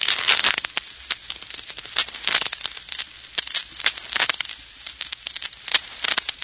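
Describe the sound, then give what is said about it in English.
Playing cards being shuffled: a dense run of rapid, crisp flutters and snaps, steady and fairly quiet, with brief louder bursts as the deck riffles again and again, and no voices. “Sound of shuffling cards can be dangerous music to certain ears, particularly to Mark Easy's.”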